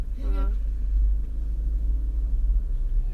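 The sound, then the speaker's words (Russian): A steady, heavy low rumble of a car engine idling in slow traffic, continuous throughout, with a brief voice heard near the start. “Так, ну что у нас пробка-то такая?”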